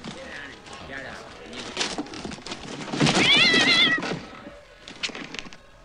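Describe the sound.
A fox gives a few high, wavering meow-like cries, loudest in the middle, with background voices and rustling around it.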